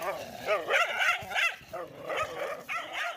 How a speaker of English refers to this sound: And out of nowhere, these couple of reservation dogs came out of nowhere, and right there they got a big old dog fight.